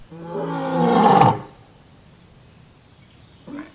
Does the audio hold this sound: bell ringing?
no